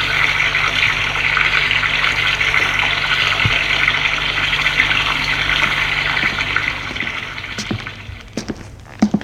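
A steady rush of running tap water, as if someone is washing dishes, holds at an even level, then thins out near the end with a few short clinks and knocks.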